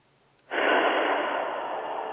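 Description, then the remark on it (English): A single slow, deep breath, taken during a guided breathing exercise, starts abruptly after a brief quiet moment and holds as a steady, airy rush to the end, with no talking. “Now just keep breathing in and out quietly, slowly, and concentrate on your breath as it goes in.”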